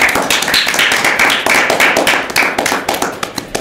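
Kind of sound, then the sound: crowd, applause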